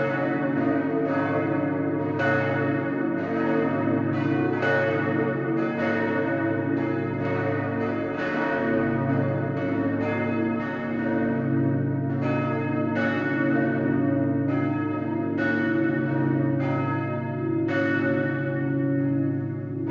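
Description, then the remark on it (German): Four large church bells in Auerbach, a harmonically tuned quartet, peal together in a continuous, overlapping rhythm, their strikes ringing out loud with long resonant hum filling the gaps, no voices present. “So kehrten sie unversehrt nach Auerbach zurück, wo sie bis heute als harmonisch gestimmtes Idealquartett ihren Dienst tun.”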